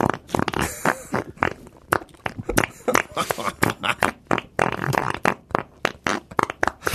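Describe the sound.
A rapid, uneven string of loud fart noises made in a studio, sputtering bursts one after another for several seconds with barely a pause between them.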